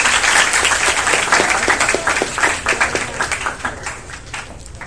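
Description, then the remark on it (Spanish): A crowd applauds the engineers being thanked and given gifts at the end of a session, with dense, steady clapping that stays strong at first and then thins gradually toward the end, with scattered individual claps standing out. “Por favor, un fuerte aplauso para ellos.”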